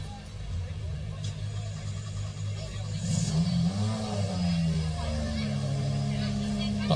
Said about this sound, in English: Okay, we're just moving the cars, and up next we're going to... That will sound nice in the radio, betcha.